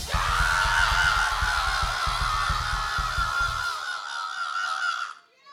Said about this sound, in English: Now when we ask you all to scream, you need to do the ball-crunching, labia-lashing, blood-curdling yell. Are you with me? Everybody scream!